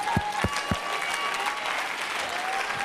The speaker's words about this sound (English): If you ain't clapped your hands in a long time, just do that right there.